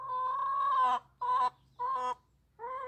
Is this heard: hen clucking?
yes